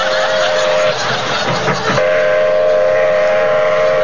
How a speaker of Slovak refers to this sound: A toto bolo čo? Prišiel vlak. Hej? A kde? Na druhú koľaj, čo nevidíš?